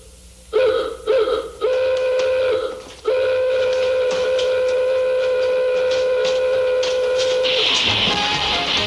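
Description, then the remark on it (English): The klaxon horn of a vintage classic car in the TV comedy My Mother the Car honks twice in short bursts, then blares in long, sustained, brassy tones, ending in a rushing hiss. “God, I hate that horn so much.”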